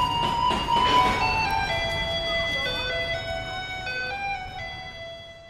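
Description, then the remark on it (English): A garbage truck in Taiwan rumbles down the street playing a familiar classical piano melody in bright, electronic chime-like tones, loud, over a steady low rumble of engine and street noise, signalling residents to take out their trash. “if you live in Taiwan and you hear a truck rumbling down the street playing Für Elise”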